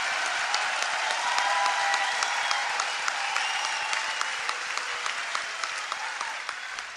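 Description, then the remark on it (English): A crowd bursts into loud, sustained applause, dense clapping filling the whole stretch with a few whoops and cheers rising above it before it slowly tapers. “Big applause line and a little bit of revenge there.”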